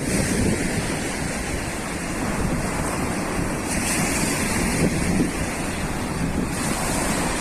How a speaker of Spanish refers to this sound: Las olas rabiosas contra el espigón, un estallido de espuma sobre los pescadores.